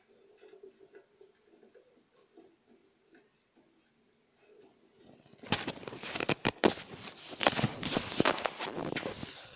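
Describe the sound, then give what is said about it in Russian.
Quiet for the first few seconds, then footsteps walking home crunch in loud, an uneven run of gritty steps on rough ground with no voices. “Домой. Временным шагом. По тропинке не пойду, там споткнулся, еще если не споткнулся, пока еще возвращался.”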